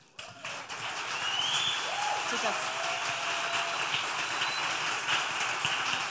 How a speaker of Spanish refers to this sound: Las de las fotos. Avivadoras. Démosle un aplauso.